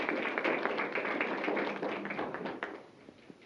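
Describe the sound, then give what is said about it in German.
Young Pioneers applaud the President as he enters the hall, in a dense, continuous patter of many small hands clapping, fairly loud at first and tapering slightly toward the end, with no speech over it. “Sie klatschen ihm Beifall.”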